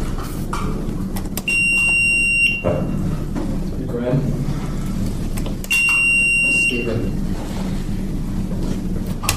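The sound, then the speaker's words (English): Two high-pitched, steady electronic quiz bowl buzzer tones, each lasting about a second and sounding a few seconds apart, over a rumbling, noisy background with murmuring voices, during round three of the College Natural History Bowl between Harvard and Virginia as the Harvard team buzzes in. “So, Harvard, if you guys want to buzz and give your name.”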